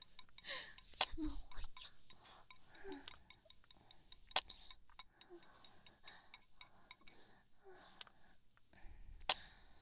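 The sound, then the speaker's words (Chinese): Quiet mealtime sounds: scattered light clinks of utensils against dishes and soft chewing, with a few sharper taps standing out, otherwise hushed, with faint breathy murmurs in the background. “我们接着吃饭吧。之前说好的，吃饭的时候不可以讲话。”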